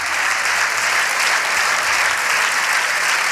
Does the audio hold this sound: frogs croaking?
no